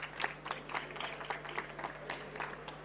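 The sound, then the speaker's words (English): An audience applauds steadily for a few seconds to welcome a speaker, a dense patter of many hands clapping at moderate volume with a faint electrical hum underneath. “So give him a warm applause.”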